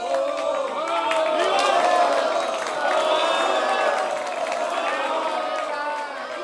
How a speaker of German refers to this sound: Nach der kleinen Generalpause, die solchen musikalischen Wirkungen folgt, erhob sich der Applaus, der zu hellen, lang anhaltenden Eviva-Rufen anwuchs. Die jugendlichen Musiker feierten den Meister.